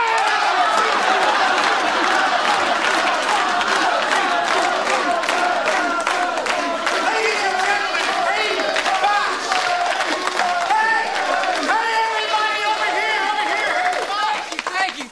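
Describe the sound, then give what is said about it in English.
A large crowd cheers and claps loudly and steadily as Buzzy the Beaver is introduced at a Screaming Eagles event, dense applause mixed with high shouts and whoops that keep going for the whole stretch without letting up. “But we really should be applauding for Coach Fox tonight.”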